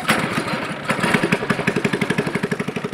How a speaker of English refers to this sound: I'm sitting in a fishing boat on the Mekong in the Cambodian district of Sambor, about 5 hours north of the capital, Phnom Penh.